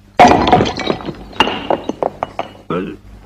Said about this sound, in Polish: I co pan zrobi z tym popiersiem? Rozbiję.